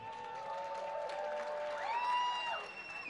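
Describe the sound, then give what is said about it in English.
A crowd of fans cheers and claps to vote for the winner of a dance-off, steadily for about three seconds, with high sustained whoops and shouts rising in pitch over the noisy wash of applause before easing off near the end. “When the music stops, we will be asking for your cheers to determine who is the winner.”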